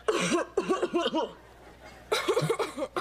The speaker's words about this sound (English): Wait, listen to my cough. You've got to give it more than that. Give it a hack like this.